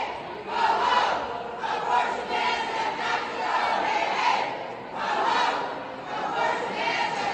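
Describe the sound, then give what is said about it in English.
A large crowd of abortion protesters at the Iowa state capitol chants "The abortion has to go" in unison, loud rhythmic phrases repeating every second or so with brief dips between, a steady collective roar of many voices throughout. “The abortion has to go is the chant there.”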